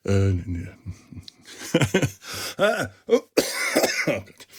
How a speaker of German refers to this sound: Den Husten, das kennt ihr, werdet es bitte verzeihen. Das wird noch ein bisschen dauern, bis der komplett weg ist.